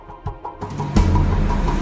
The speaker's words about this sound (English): Louis' black 4x4 traveling in busy traffic.